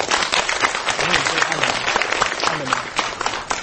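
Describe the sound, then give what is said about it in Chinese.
A lecture audience claps loudly and steadily to welcome Lai Ming-chao, president of National Cheng Kung University, before his talk on avian flu and SARS, a dense wash of applause that fills the whole stretch without fading, with a faint voice or two underneath. “我们是不是请各位以最热烈的掌声来欢迎赖校长。”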